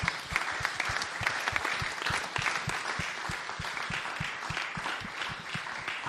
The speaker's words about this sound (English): Thank you so much. Should we give our panel another round of applause?